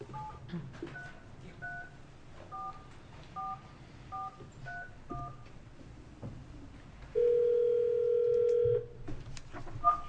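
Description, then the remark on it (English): A rapid series of short telephone keypad tones beeps out a number to call a witness who will testify by phone before a Senate Judiciary Committee, followed by a steady held tone for about a second and a half, then another brief beep over faint room noise. “So we have two individuals that are going to be testifying out of this panel that are going to be by phone.”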